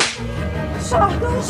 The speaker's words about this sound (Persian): ملکزاده با خشم وارد میشه. جیران، به جیران سیلی میزنه.